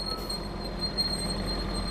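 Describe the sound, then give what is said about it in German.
A bus slows and comes to a stop, its low engine drone steady while a thin, high-pitched brake whine hangs over it; no one speaks. “Jetzt hält er ganz an.”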